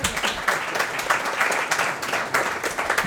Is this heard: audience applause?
yes